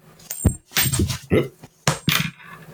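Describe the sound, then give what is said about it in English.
A coin is flicked into the air, then clatters onto a desk, ringing metallically through a few quick bounces and rattles before coming to rest on its side against a keyboard. “Let's flip the coin of destiny.”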